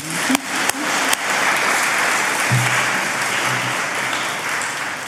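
Sustained audience applause fills the space, a dense wash of many hands clapping at steady volume for several seconds, with a few sharper claps standing out near the start.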